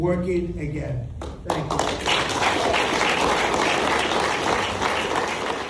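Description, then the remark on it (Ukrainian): A voice speaks briefly, then sustained applause erupts in the Oval Office as Trump's associates clap while he signs the law ending the US government shutdown, dense steady clapping from many hands that fills the rest of the moment. “Аж от зранку четверга, за нашим часом, прийшла новина, що обидві палати американського парламенту подолали шатдаун, і Трамп під оплески наближених підписав відповідний закон в овальному кабінеті.”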